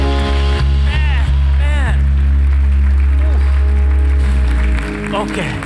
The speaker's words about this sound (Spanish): De un aplauso a su Dios.